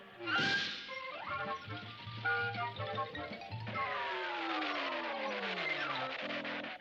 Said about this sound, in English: Sounds like you need new brakes.